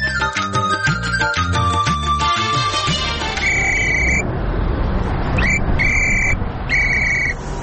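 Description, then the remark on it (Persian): A short melodic jingle gives way to loud street traffic on a road in Kabul, at the Makroryan area where there is a traffic signal: a steady engine rumble with several sharp car horn blasts honking in quick succession, no voices. “شنونده های عزیز، اکنون گزارش زنده داریم از جاده های شهر کابل که ما یکی از دو جاده شهر کابل که رفتیم و سر زدیم اونجا دیدیم که اشاره های ترافیکی اصلا وجود نداشت.”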